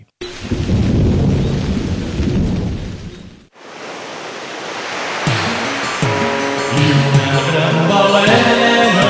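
A loud rainstorm with deep rumbling thunder roars steadily, breaks off briefly, then returns as a dense wash of rain while a soft melodic music bed rises underneath.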